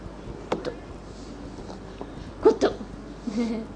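A few short, wet gulps of someone swallowing water, spaced irregularly, with a pair of louder swallows in quick succession followed by a soft, low murmur.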